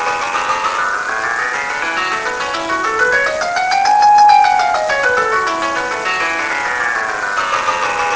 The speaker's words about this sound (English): We can take spreadsheet data, numbers, and convert those into a picture, and at the same time convert them into sounds. We'll hear a bell curve representation of the data.